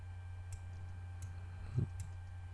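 A few light, sharp computer mouse clicks, including a double-click, spaced unevenly over a couple of seconds, with a soft low thud near the end and a steady low hum in the background.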